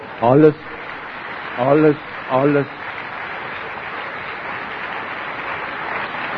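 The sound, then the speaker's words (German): Steady audience applause fills the whole stretch as a dense, even wash of clapping. Three short voiced calls or shouts rise briefly above it early on. “Alles in den Kopf, alles mit dem Applaus, nehmen Sie mir Sekunden weg, ich bitte Sie, lassen Sie es nicht.”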